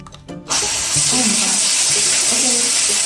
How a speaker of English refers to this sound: Look, so I just got home from work and it is time for a shower.